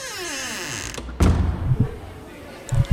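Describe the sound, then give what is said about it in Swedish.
A mechanical whirring slide ends in a sharp thud at about one second, followed by rumbling low knocks and clunks, like doors sliding shut, with a brief voice near the end. “Kom igen nu, innan dörrarna går igen.”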